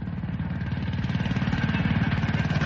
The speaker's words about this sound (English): What brings you all the way out here on a handcar?